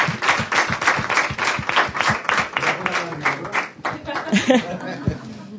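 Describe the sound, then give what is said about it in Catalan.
An audience breaks into warm applause for a visiting music band, a dense rapid patter of many hands clapping, which thins out after a few seconds as a voice starts to speak. “Un aplaudiment ben fort.”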